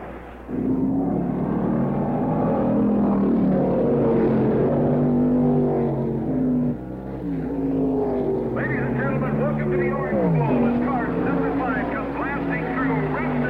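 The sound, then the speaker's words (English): The engines of 30 Can-Am race cars rumble loudly and continuously at the end of the pace lap at Laguna Seca, several motors droning together before revving higher and rising in pitch as they edge toward a flying start in front of the pits. “The end of the pace lap at Laguna Seca as 30 Can-Am cars edge toward a flying start in front of the pit.”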